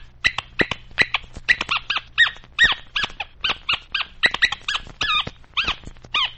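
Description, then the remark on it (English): A dog named Popcorn, on a radio program, barks in a rapid, uneven string of about twenty sharp, high-pitched yaps and yelps, loud and unbroken by talk, with a low steady hum underneath. “Popcorn says he feels very sad, and he wants to say a word to all his radio dog pals.”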